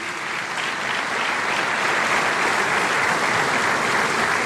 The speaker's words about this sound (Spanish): Pido un fuerte aplauso para los que no están y tuvieron la visión hace 47 años de salir